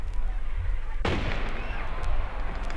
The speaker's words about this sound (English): Or you can just watch these fireworks.